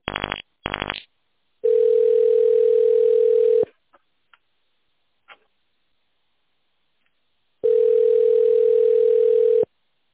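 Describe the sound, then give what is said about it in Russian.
A telephone ringback tone while a caller waits for an answer from the electrical engineering company PSB Electro: two long, steady mid-pitched buzzing tones about four seconds apart, after a pair of short harsh bursts at the start, with silence and faint clicks between. “Пожалуйста, наберите внутренний номер абонента или дождитесь ответа.”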